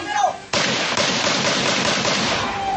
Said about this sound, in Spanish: se ven los disparos que terminan quitándole la vida.